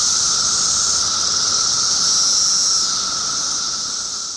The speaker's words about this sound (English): Nope, that's not a household generator or a low-flying airplane. Instead, it's the rhythmic thrum of cicadas, a staple of our summer soundscapes here in the United States.